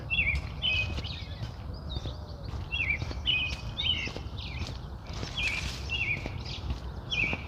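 A robin sings a steady run of short, bright whistled phrases, repeating every half second or so, over a low outdoor rumble with occasional soft knocks or footsteps.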